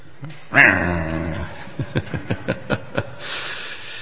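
dog barking and whimpering

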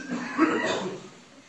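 audience members coughing

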